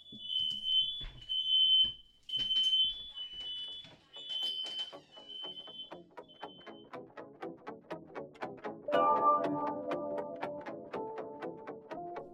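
A smoke alarm in a house shrieks in loud, shrill, repeated beeps for several seconds, a false alarm at about 10:35, then fades out as people start talking.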